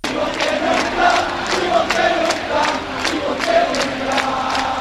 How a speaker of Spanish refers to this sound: Entre los nombres más vitoreados por la afición, el del entrenador Ivón Navarro.